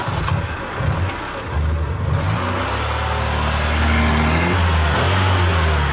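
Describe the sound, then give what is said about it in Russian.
A car engine revs up and the vehicle pulls away, its low rumble rising in pitch and growing steadily louder, a continuous motor sound with no one speaking. “И уехал автомобиль.”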